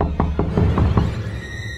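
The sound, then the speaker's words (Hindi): Five quick, evenly spaced, solid knocks on a door, followed by a quiet lingering background tone with a faint high hum. “आगे बढ़ता है रूम में जाने को, तभी फिर से दस्तक।”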